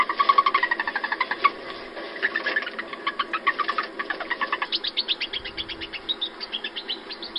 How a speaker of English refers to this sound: I mean, it's a mouse that's making vocalizations. Yeah, it's a chirping mouse.